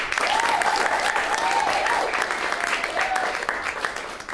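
Sustained audience applause for a comedian being introduced, dense and steady clapping with faint cheering tones rising above it, continuing loudly for several seconds before easing slightly.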